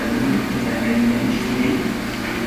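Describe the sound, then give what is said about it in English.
A train running with a steady, continuous rumble and a low droning whine underneath, holding an even, fairly loud level throughout without any breaks. “This is our train.”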